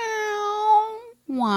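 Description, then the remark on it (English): A cat, Monica's kitty cat, meows twice: a long, steady, drawn-out cry, then a brief pause and a second meow that slides downward in pitch, loud and clear with no talking. “All right, let's see what Monica's kitty cat sounds like.”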